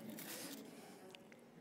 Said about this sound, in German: Und ich öffne mal dieses Überraschungsei.